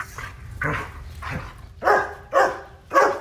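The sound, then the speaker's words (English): A dog barks about six times at a steady, unhurried pace, the last few barks louder, with no voices present. “We were asked to take a look at training dogs for detection of COVID-19.”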